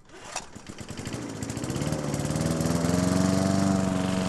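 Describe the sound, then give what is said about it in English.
A lawn mower engine sputters to life and runs steadily as grass is mowed, its rapid puttering growing louder and settling into a strong, continuous drone. “Mowing the grass is tedious and repetitive, just the sort of thing you might like to hand over to a robot.”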